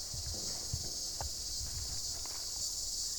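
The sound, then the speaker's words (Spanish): Crickets chirp in a steady, high-pitched drone that fills the whole stretch, with faint low rustling and a few soft scuffs outdoors beneath it, at the Acalamanchuchu spring among trees, flowers, leaves and water. No one speaks. “Es que estoy escuchando aquí unos grillos.”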